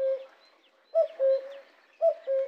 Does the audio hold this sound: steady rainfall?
no